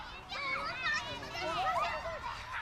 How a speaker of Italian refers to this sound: E rieccoci qui insieme. E li sentiamo ancora i bambini giocare sullo sfondo. Non disturbiamoli, lasciamoli in pace.